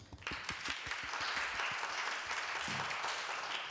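Sustained applause from a sizable crowd, a dense wash of many hands clapping that starts abruptly and holds steady and loud throughout, with a few sharper individual claps standing out near the start.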